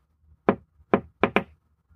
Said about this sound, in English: They knocked again.